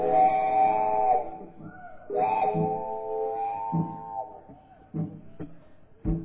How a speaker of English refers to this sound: And if I listen real close to Chuck's pedal steel guitar, I can hear that train whistle blowing right now. Yeah. Train's coming on round the bend. Picking up steam.